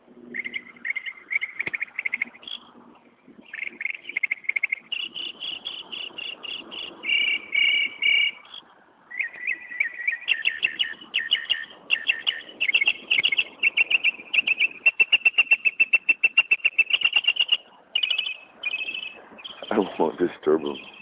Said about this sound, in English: Bird sitting on the top of a parking lot sign here, just singing his heart out. And I think I'm not quite sure what, but I think just the position that he's in, there's an echo coming back from the building. And he's sitting there singing to himself,